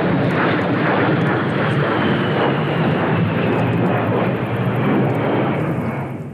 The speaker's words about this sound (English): The A-10 Warthog is a loud jet fighter plane.